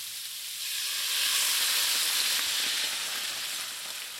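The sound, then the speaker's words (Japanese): Steady sizzling of mustard-coated chicken, maitake mushrooms, chestnuts and softened onions lightly frying in a pan, a continuous bright crackling hiss that swells slightly and holds at a moderate level with no talking. “舞茸と栗を加えて軽く炒めたら、マスタードを塗った鶏肉を戻し入れてください。”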